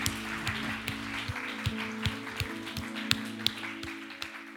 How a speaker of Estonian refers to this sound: Anname Jeesusele üks vägev aplaus, tema väärib seda seal hommikul. Amen.